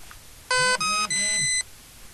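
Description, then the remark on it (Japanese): A battery checker tests the dry batteries of an Ando International tape recorder: three beeps sound back to back, bright electronic tones with the last held longer, over a low buzzing vibration, showing plenty of charge left. No one speaks during the beeps. “3回音がして振動が鳴りました。これは結構電池がまだまだ残ってますよっていう案内です。”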